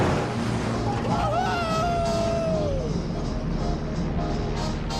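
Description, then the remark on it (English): A car engine roars steadily as the car speeds down a road surrounded by crops in Florida, 1941, chasing a plane; a dense rumble runs throughout, with a high whining tone that holds briefly and then slides downward midway through. “A young man speeds down a road surrounded by crops, chasing a plane.”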